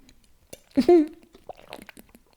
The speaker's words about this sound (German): Moment, ich trinke erstmal einen Schluck Wasser dazwischen.